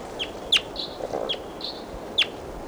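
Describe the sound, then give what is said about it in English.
Wild bird calls: two sharp, high chirps stand out, with softer whistled notes in between, all over a steady low background rumble. No one speaks. “Start recording. That wild bird was collected.”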